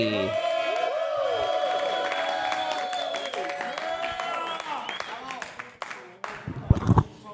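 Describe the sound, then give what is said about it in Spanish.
A crowd breaks into sustained applause and cheering as the next performer is introduced, a dense wash of clapping that carries on for several seconds with tonal sounds layered over it, then thins out near the end. “Fuerte aplauso para Emanuel Kiwi.”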